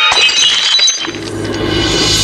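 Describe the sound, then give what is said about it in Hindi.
A flying glass tumbler smashes against a chair in a loud, bright crash, its sharp shards tinkling and scattering for about a second before fading under a steady low hum. “एक कांच का गिलास उड़ता हुआ आया और सर के पीछे से होता हुआ सामने की कुर्सी से टकरा गया।”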